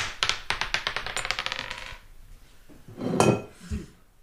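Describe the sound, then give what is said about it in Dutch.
A die is thrown to draw a winner, clattering and tumbling across a hard surface in a quick, rattling burst of clicks that slows and settles, landing on three, followed by a brief rustle and a soft thud. “Maar we gaan de dobbelsteen gooien.”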